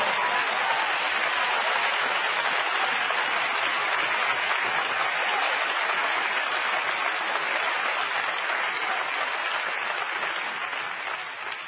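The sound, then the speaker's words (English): A large crowd claps its hands in sustained, dense applause, steady and fairly loud throughout, fading slightly only at the very end. No voices stand out. “Hey, don't clap your hands because they tell you to clap your hands, but clap your hands because it means something to your God.”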